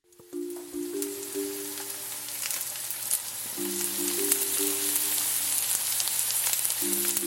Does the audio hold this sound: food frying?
yes